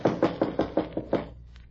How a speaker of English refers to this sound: Well, come on. Don't rap too hard. You'll knock the door off its hinges.